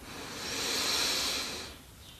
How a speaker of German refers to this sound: Wir nehmen alle gemeinsam den ersten tiefen Atemzug und atmen ein.